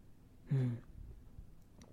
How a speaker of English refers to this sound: But what is amazing, actually, I mean, I let this espresso extraction sit there for at least 5 minutes, and there is still a lovely head of crema there. Just doesn't go away. So let me just have a sip.